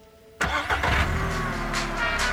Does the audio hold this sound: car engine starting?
yes